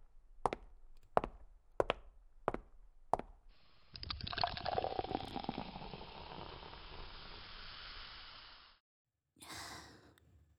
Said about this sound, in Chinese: 唉，算了，自己倒水吧。